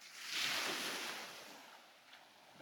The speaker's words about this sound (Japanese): それにしても、海っていいよね。私もビーチには友達と泳ぎに来たりするけどさ、こうやって眺めるだけっていうのも案外いいかも。へえ、お客さんって結構見に来たりしてるんだ。それって、やっぱり波の音を聞いて落ち着くから？